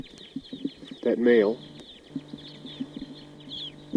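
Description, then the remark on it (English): Two birds perched together in a pine tree call: one loud, harmonic, wavering call lasting about half a second, then scattered short chirps over a steady high-pitched hiss, with a man briefly speaking. “Both of those birds are here together in a pine tree, pointing at those two birds.”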